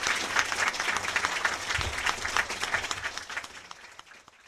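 A crowd at an Omaha Press Club luncheon applauds the candidates for Mayor of Omaha, Hal Dobb and Jim Suttle, after their debate, with dense, rapid clapping for several seconds that gradually thins and fades toward the end.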